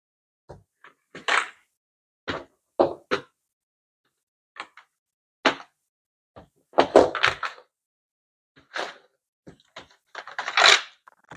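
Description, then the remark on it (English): Dice rattle and clack onto a hard tray in scattered bursts, with sharp clicks and a few busier tumbling clusters, moderately loud, and no voices. “How are we going to roll the dice and make sure that it's not too loud?”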